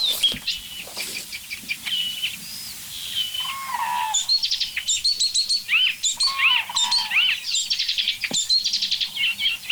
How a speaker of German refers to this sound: Alles ein Vogel.